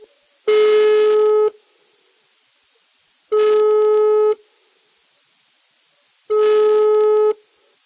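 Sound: telephone ringback tone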